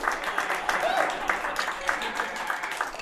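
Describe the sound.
A steady crowd applause of many hands clapping in a dense, continuous patter, with some voices and a brief whoop mixed into the noise throughout.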